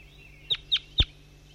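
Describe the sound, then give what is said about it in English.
A bird, designated bird 5-3, gives three short, sharp calls from a tree at 7:50 a.m., evenly spaced and high-pitched, over a faint steady background hum with no talking. “This is bird 5-3 calling.”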